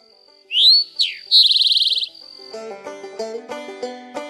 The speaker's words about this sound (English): Our first bird, the Eastern, formerly known as the Rufous-Sided Towhee, is a fancified robin look-alike. Their call is easily identifiable. Drink your tea! Drink your tea!